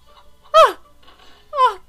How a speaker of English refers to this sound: Hey, be nice to Jay's pet. No, that is literally Jay's chicken.